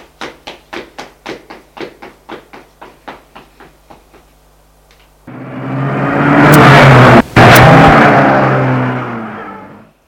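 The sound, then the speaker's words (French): A quick series of about a dozen hurried taps gives way to a loud car engine roaring as it accelerates, holding strong for several seconds before fading away at the end. “La voiture filait.”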